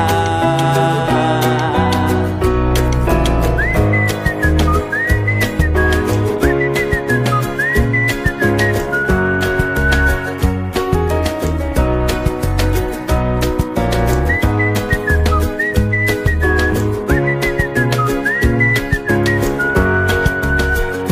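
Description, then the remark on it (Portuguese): Bright whistled melody rises and falls in looping phrases over a full, steady band accompaniment with a driving beat, the whistling prominent throughout. “E quem diria que esta alegria me pusesse logo, logo a assobiar.”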